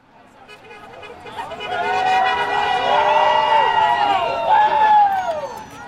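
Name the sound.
small crowd cheering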